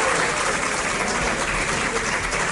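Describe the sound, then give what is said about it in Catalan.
Members of a speaker's own parliamentary group, not the public, applaud steadily during a parliamentary session, many hands clapping in a dense, even patter at constant loudness throughout, with no voices standing out above it. “Estan aplaudint no les persones del públic, estan aplaudint els del seu grup, perquè senyalava el públic.”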